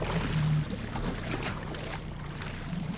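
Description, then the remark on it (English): A small 10-horsepower outboard motor on a 12-foot aluminum skiff catches with a loud burst, then settles into a steady droning hum amid wind and water noise. “Then we jumped into the skiff, and Captain Donald started the 10-horse outboard.”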